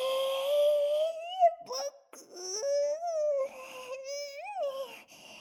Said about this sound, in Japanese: バブちゃんはバブバブ言ってるだけのただのサーク、いわば赤ちゃんなんだ。